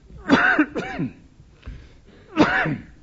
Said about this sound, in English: Listen to that cough as well. Excuse me, it's been a bit of a problem for some time.